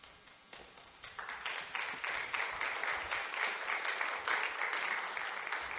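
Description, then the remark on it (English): Audience applause swells after a quiet start, becoming a dense, steady patter of many hands clapping that holds at a moderate level throughout. “It's definitely a video worth clapping about.”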